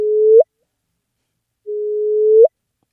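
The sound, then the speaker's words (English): A gravitational-wave chirp from two colliding black holes, recorded by a detector instrument and slowed down so it can be heard, played twice: a steady low-pitched whistle that grows louder and sweeps abruptly upward at the end, with silence between the two chirps. “So that is the sound of two black holes colliding.”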